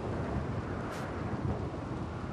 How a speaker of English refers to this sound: Rainy thunderstorm.